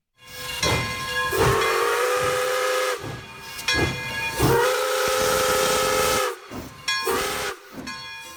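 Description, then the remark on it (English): A steam train whistle blows in several long, loud blasts, steady tones with rich harmonics, broken by sharp bursts of hissing steam between them. No one speaks. “There's something about trains. They are the symbols of adventure as well as a slower pace of life, and they look and sound pretty cool.”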